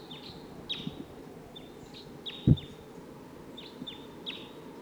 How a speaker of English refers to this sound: This is bird 85. Stop. They're recording the wild bird. I don't see it. Wild bird.